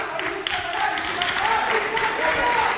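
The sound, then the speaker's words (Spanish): A crowd reacts with booing mixed into applause, a steady, dense wash of clapping under low, drawn-out jeering voices that rise and fall throughout, at the moment a speaker announces he will propose to the Council of Ministers pardons for the nine prisoners convicted in the Procés trial. “Abucheos y aplausos mezclados justo en el momento en el que anunciaba lo que hará mañana el Consejo de Ministros.”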